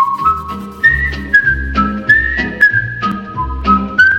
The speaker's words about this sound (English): The familiar whistling sounds of the opening of the Andy Griffith Show, also now synonymous with America's favorite feature, the far-flung forecast.